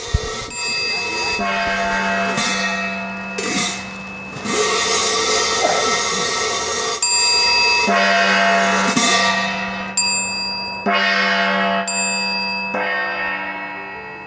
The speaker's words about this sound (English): Ring the gong. Ring the gong, yes.